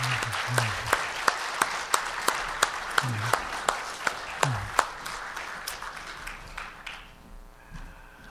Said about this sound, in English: If you want to clap, you can do that too.